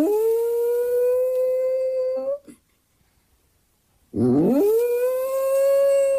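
A small dog gives two sustained, plaintive howls at a camera, each long and steady with a rising wavering start on the second, separated by a brief silence.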